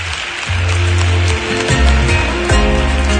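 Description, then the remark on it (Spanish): A crowd claps loudly and steadily for a few seconds, a dense crackling wash of applause with a low droning tone shifting underneath it, welcoming the child candidates for dama infantil in the elegance parade at the 2019 Carnaval Colombino. “Recibamos, pues, con un fuerte aplauso a todas ellas.”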